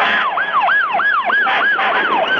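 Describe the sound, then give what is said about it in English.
Emergency vehicle sirens blare loudly, their rapid yelping tones sweeping up and down several times over a steady rumble of road noise, with no one speaking; fire trucks arriving at a fire near Waco that has burned down the Branch Davidian compound. “Now more sirens coming up from behind me.”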